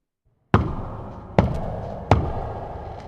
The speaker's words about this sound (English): After a few minutes, footsteps could be heard in the corridor outside the Queen's room. Sir Agravaine banged heavily on the door.